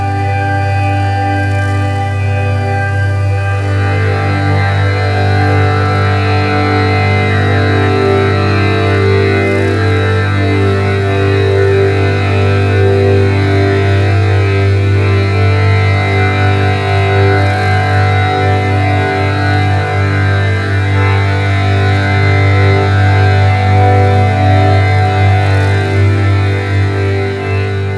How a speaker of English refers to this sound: the whole track slides over into a nocturnal drone of quivering filtered tones and what sounds like hushed insects.